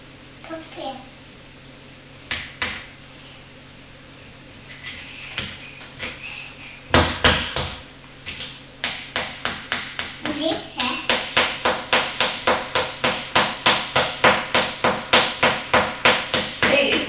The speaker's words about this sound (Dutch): De arme pop zou langs wat hoofdpijn hebben van het getimmer.